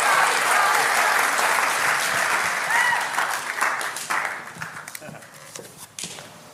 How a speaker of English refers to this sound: So can we all give a big round of applause for Daniela, who is incredible.